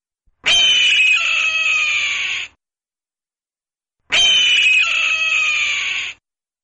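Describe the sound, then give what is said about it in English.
Two long, harsh, descending raptor screams of a red-tailed hawk, each lasting about two seconds and separated by a short silence, loud, raspy and high-pitched with no other sounds. “Today's focus on phenology is the nesting activities of red-tailed hawks.”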